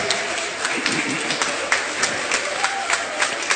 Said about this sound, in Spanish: Muchas gracias a todos los integrantes que nos han regalado esta bonita obra de teatro. El aplauso que se oiga más fuerte, por favor, que se oiga.